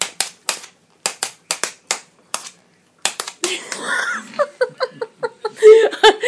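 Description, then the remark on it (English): Tap shoes, worn by a beginner for the first time, shuffle on a hard floor in sharp, bright clicks grouped in quick pairs and triplets, then someone laughs loudly while the tapping continues underneath. “Well, I'm really excited to have a pair of tap shoes on for the first time in my life. So far, I've learnt how to shuffle.”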